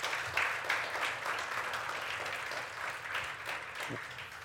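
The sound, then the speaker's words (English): An audience at a church service claps steadily in praise of the Lord, a dense wash of many hands applauding at once, fairly loud and sustained throughout with faint voices mixed in beneath. “Come on and bless the Lord again with a hand clap of praise.”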